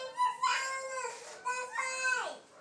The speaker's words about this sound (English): What's Roxy barking about? I have no idea.